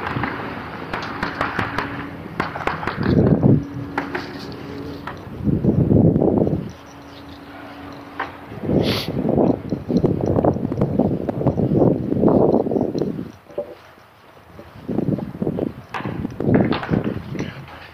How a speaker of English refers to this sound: They're putting the roofing on. If you can't tell from the woodpecker sounds, that's these guys putting the roofing on this. Assisted living facility.